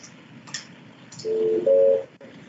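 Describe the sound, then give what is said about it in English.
Two steady dual-pitch phone keypad beeps sound one after the other over a quiet hum, clear and fairly loud, as a number is dialed on a speakerphone to call members of the public for public comment. “I'm going to call them on speakerphone.”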